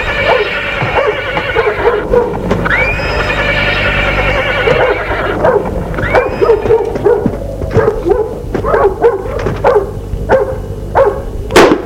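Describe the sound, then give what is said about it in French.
A horse whinnies loudly early on as its rider dismounts at a château, then a dog runs up and barks in a rapid string of sharp yelps and woofs, with low rumbling noise underneath throughout. “Elle descend de cheval. Un chien accourt à elle et aboie.”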